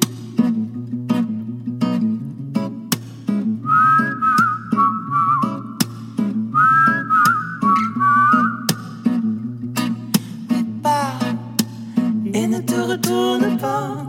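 A clear whistled melody rises above steady instrumental accompaniment with plucked, rhythmic beats, the whistling gliding through two long phrases in the middle before the music continues without it.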